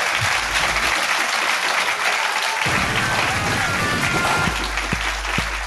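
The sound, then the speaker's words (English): Sustained audience applause for Catherine Ryan fills the whole stretch, a dense, steady wash of many hands clapping at an even loudness, with a few sharper claps standing out near the end. “Ladies and gentlemen, please give a big round of applause to the amazing Catherine Ryan.”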